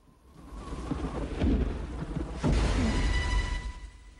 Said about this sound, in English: Rain hits a tree leaf. Heavy rainfall pours down on the village.